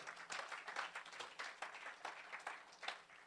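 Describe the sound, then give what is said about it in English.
An audience claps for the Lord Jesus together in a dense, steady burst of applause that carries on for several seconds, crisp and bright, with no voices standing out above the clapping. “Clap for the Lord Jesus.”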